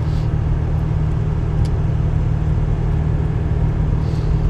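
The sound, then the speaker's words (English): Steady low rumble of a car on the road, a dense, even drone of engine and tire noise with a faint hiss above it and no talking. “Holy cow, I'm driving.”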